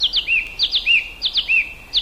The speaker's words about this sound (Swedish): Nu hörde jag en taltrast här inne.